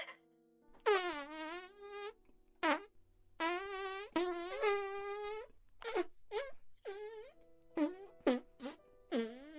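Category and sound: human body sound, fart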